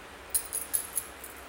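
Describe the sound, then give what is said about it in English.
Keys jingle softly in four or five quick metallic shakes, bright and close, with a quiet background and no voices. “Because I can hear them jingling.”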